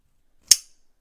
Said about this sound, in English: And this is what the clasp sounds like. That's it open. Closed. Do it again.